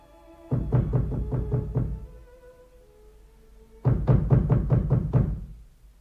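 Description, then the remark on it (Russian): Two rounds of firm knocking on the wooden door of a house, each a quick run of about six hollow raps, separated by a few seconds of quiet. No one speaks. “Ну, иди, иди, иди, стучись в дверь и пожинай плоды своего предательства.”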